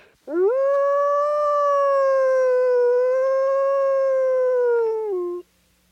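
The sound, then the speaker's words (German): A single long wolf howl, loud, rising quickly then holding a steady, mournful tone for about five seconds before dropping off abruptly. No other sounds or voices. “was wir da gerade gehört haben, ist ein Wolf.”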